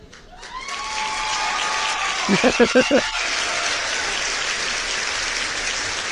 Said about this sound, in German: Die begrüßen wir natürlich mit einem riesen Applaus.